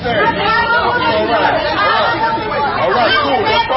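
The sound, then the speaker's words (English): Dense crowd chatter from many overlapping voices, a steady, loud babble of shoppers talking at once in a Trader Joe's grocery store on the Upper West Side of Manhattan, with no single voice standing out, continuous throughout. “At a Trader Joe's on the Upper West Side of Manhattan yesterday, the crowds were huge.”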